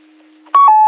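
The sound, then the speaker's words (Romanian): A short electronic roger beep ends a radio transmission: two quick pitched tones stepping in sequence, loud and clean, after a faint low hum, with no one speaking. “Q5, dacă mă recepționați și scoateți tonul de Roger Bipol acela.”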